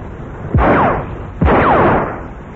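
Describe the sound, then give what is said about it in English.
Two loud gunshots fire about a second apart as Somerville and Mr. Watts are out shooting, each a sharp crack followed by a long, rumbling echo that rolls away. There is no talking. “Well, Somerville's still out shooting, and he's been joined by Mr. Watts, as you can hear.”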